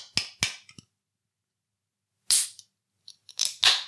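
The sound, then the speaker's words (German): A can of Kio beer being opened: two sharp metallic clicks, a pause, then a hissing pop of escaping gas followed by a few more crisp snaps and fizzy bursts, with no talking. “Wir fangen natürlich mit dem guten Kio Dosenbier an.”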